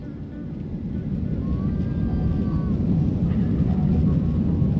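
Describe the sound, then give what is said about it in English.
A steady, loud low rumble of airplane cabin noise during takeoff as the plane bumps and sways, building slightly in intensity, with a faint high whine drifting through the engine roar. “The plane bumps and sways during takeoff.”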